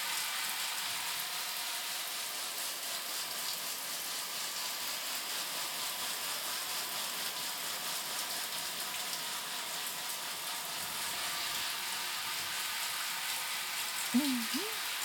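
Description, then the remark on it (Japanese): Continuous scrubbing of lathered hair while shampooing, a dense crackly hiss that stays steady throughout, with a brief faint vocal sound right at the end. “うんうん、頭をシャワシャワするのって気持ちいいよね。”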